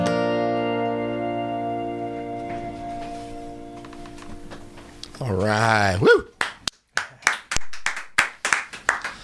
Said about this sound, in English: All right, now we got more clapping going on